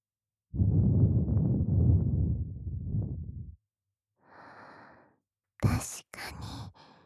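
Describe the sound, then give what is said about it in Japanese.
Soft breath blown close into the ear: a long, airy exhale lasting a few seconds, then a fainter gentle puff, and a couple of quicker breathy blows at the end. “こうやって息を吹きかけた方が、お耳の奥の方を刺激させられますからね。”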